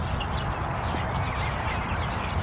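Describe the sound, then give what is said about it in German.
Several birds sing loudly in a field at Kursdorf, chirping and trilling steadily above a constant low roar of motorway traffic; the birdsong is bright while the heavy road noise fills the background throughout. “Also ich höre die Vögel trotz der Autobahn und es kommt mir ein bisschen so vor, als ob die Vögel gegen den Lärm ankämpfen würden.”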